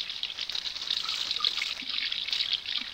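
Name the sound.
hot water running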